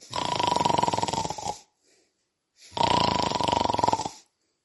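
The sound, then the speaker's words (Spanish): Two loud, exaggerated fake snores from a woman sitting in a rocking chair after eating, eyes half closed, each a long rattling rasp of over a second with a short silent pause between. “entornó los ojos, fingió unos sonoros ronquidos y se puso a esperar.”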